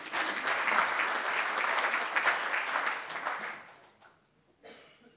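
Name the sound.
council members applauding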